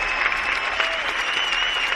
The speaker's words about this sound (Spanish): ¿Puedo pedir un fuerte aplauso para Macón y Macobo, por favor, que lo merece?